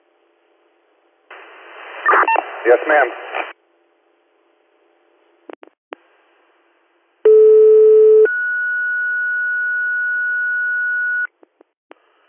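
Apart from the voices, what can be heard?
telephone call being placed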